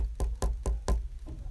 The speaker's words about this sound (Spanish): Y después de unos segundos de no hacer nada, decidieron tocarle la puerta, así que suavemente hicieron esto.